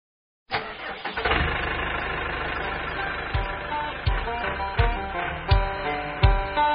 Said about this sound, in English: The gasoline engine will always have a place on the American farm, and it will need to have a method to atomize the fuel and mix it with air, the standard being the carburetor.